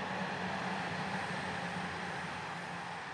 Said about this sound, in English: East Midlands trains. It's the main line from Derby up to Chesterfield this way. And as it gets further up, it goes through the Claycross Tunnel